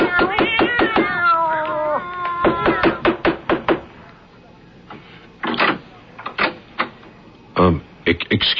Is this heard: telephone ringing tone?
no